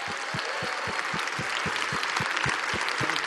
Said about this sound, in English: So would you guys stand to your feet? Would you give a round of applause, a welcome round of applause to Brother Terry Mize?